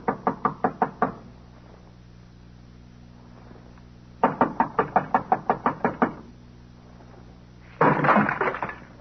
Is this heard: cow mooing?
no